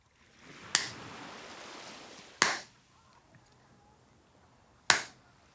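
A hand slaps sunscreen onto a bare belly: three sharp, close skin slaps spaced a couple of seconds apart, with a soft hiss of background noise between them and no talking.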